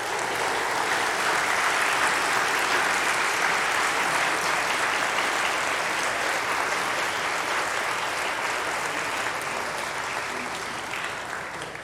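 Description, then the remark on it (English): An audience applauds the fathers among them steadily for about twelve seconds, a dense, even wash of many hands clapping that stays loud throughout and tapers only slightly at the end, with no voices over it. “So let us offer our applause to the fathers to begin with.”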